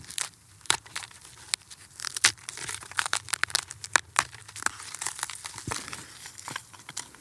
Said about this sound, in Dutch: Allemaal verdord hout. Stompjes, stam. Hier zie je nog een stukje van een boom. Ik kan het zo kapot maken. Alle jaarringen.